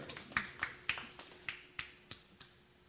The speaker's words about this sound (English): That's all the Vols got was a golf clap. I mean, you know, like, yay.